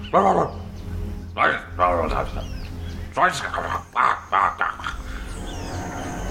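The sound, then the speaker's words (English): A dog barks in a series of short, sharp, irregular bursts, mixed with muffled voices over a steady low background hum. “Ooh, they're like, oh my god, a dog.”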